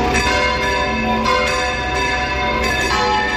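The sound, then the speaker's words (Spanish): The bells of the 17th-century church of San Jaime in Relleu peal loudly and steadily, with repeated strikes every half second or so and their rich, overlapping tones ringing on continuously. No voices are heard. “Así suenan las campanas de la iglesia de San Jaime, por cierto, templo del siglo XVII en Relleu”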